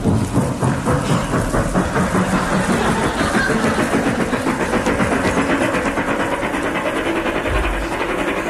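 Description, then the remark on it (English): Taxi engine and train sound effects used for a horse: a loud, steady mechanical roar of a motor engine blended with the rapid rhythmic chugging of a train, running continuously with no voices. “Astute listeners will no doubt be puzzled at a horse sounding like a taxi and a train.”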